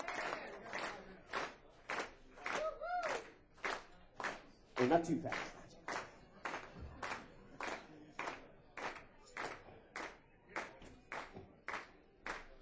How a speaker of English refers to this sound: Let's keep that clapping going like this.